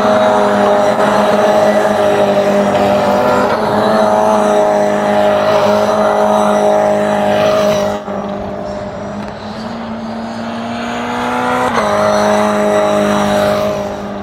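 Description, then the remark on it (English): Loud, continuous roar of race car engines passing during qualifying, a steady droning whine that dips briefly partway through, then climbs in pitch as another car accelerates past. No voices. “Oh, we got cars passing.”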